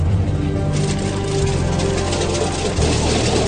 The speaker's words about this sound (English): So we have how much fuel? 2 hours fuel? Okay, start right engine clear. Okay, clear right. Number two, sir.